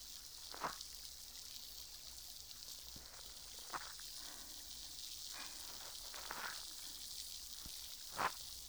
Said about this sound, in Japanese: シュワシュワパチパチって心地いい音がしてますね。綿棒の先で優しく丁寧に。